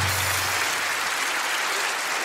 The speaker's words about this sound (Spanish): Oye, un aplauso para los dos, de verdad. Muchas gracias.